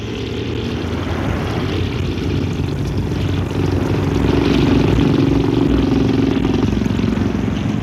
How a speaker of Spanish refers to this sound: La lancha de motor se acerca lentamente al muelle.